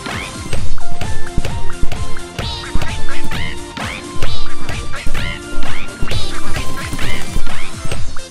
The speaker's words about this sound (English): That bird flying sound is a little bit familiar.